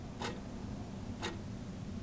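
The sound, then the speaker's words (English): An analog clock hanging on the wall of the sanctuary of an Islamic community center in South Anchorage ticks twice on a Tuesday night, exactly one second apart, each tick a crisp, soft click over a low, steady room hum in an otherwise quiet space with about 50 men present. “An analog clock hanging on the wall counts down the time until 9 p.m.”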